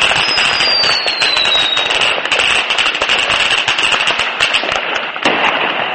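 Dense, continuous crackling and popping of a New Year fireworks display in Dubai marking the start of 2011, with rapid overlapping bangs and a faint descending whistle near the start; no voices are heard.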